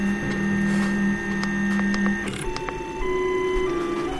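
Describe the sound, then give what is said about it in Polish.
3D printer stepper motors whir steadily in shifting tones while printing a whistle, with a sustained hum that changes pitch partway through and faint clicks and ticks scattered over it. No one speaks. “Co ciekawe, ta drukarka robi bardzo ciekawe dźwięki, ponieważ są to stepper motors tak zwane.”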